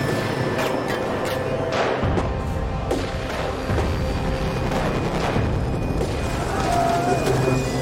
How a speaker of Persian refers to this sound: شلیک میکنن! خدای من!